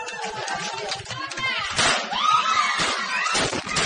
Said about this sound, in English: But I forget where this was out of, but here's a tip, a pro tip on what not to do with your fireworks during the Christmas celebration.